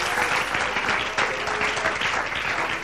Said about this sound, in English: Come on, let's clap our hands unto the Lord here today.